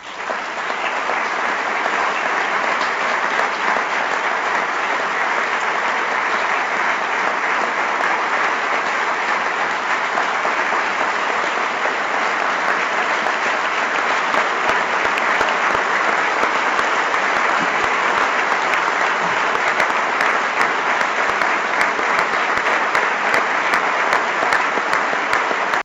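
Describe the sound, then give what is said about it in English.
Sustained applause from the U.S. Conference of Mayors giving a speaker a standing ovation, a dense, steady roar of clapping that holds at full volume for the whole stretch without any talking. “The U.S. Conference of Mayors gave her a standing ovation. That's why you hear the sustained applause.”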